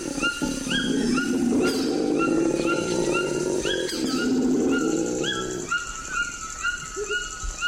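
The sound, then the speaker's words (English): A deep, rumbling howler monkey growl in the Amazon rolls on steadily for several seconds, loud and sustained, while repeated bird calls chirp over it and continue after the roar fades. “And the growl of a howler monkey.”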